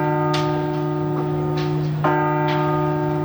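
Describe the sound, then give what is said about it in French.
The eight newly blessed church bells of Notre-Dame de Paris ring loudly, a few fresh strikes landing over a steady wash of sustained, overlapping tones that hum and shimmer throughout. No voices are heard. “les 8 cloches qui vont très prochainement résonner à nouveau dans Paris ont été bénies”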